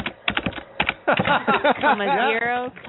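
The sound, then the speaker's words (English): Quick, crisp clicks of typing on a computer keyboard fill the first second, then a voice comes in, with keystrokes still tapping faintly beneath it. “I'm typing on this computer right now.”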